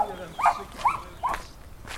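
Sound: dogs barking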